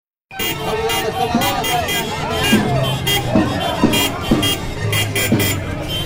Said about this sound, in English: this line of cars comes around the corner, honking, endless honking, and they're waving flags, blue flags. At first, I didn't know what the hell was happening, but it turns out it was an election rally.